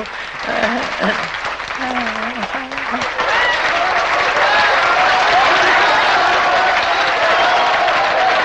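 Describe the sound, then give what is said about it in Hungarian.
Dense audience applause fills the scene, a steady wash of many hands clapping that swells and holds loud throughout, with a voice speaking briefly over it at the start. “nyugodj meg, mennyi kávét fogod a közönség tapsát, téged ünnepel.”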